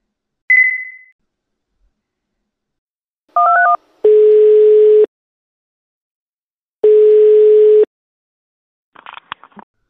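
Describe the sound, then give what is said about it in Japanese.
A short beep and a quick burst of telephone dialing tones, followed by two long, buzzy ringing tones with a pause between them, ending in a brief clatter as the line is picked up. “Hablar por teléfono. 電話する。 Hablas por teléfono. 君は電話をする。”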